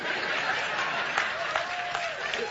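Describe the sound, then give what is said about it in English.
Scattered applause from a small part of an audience: a thin, steady patter of claps mixed with a low crowd murmur, at moderate volume and without a clear rhythm. “Oh, a few of you are clapping, but let me tell you.”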